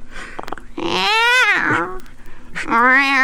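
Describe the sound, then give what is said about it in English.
A person imitates a cat, giving a couple of drawn-out, rising-and-falling meows, fairly loud, with brief breathy vocal sounds between them. “All right. Meow. All right, I'll stop.”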